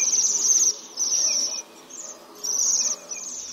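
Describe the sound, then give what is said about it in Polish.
Bohemian waxwings giving their contact calls: high, thin, gently vibrating trills that repeat in short overlapping bursts, like a small flock calling back and forth, with no talking. “Jej głos kontaktowy jest delikatnie wibrujący.”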